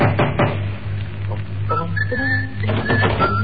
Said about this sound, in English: That's Sir James' place over there. Bang on the door.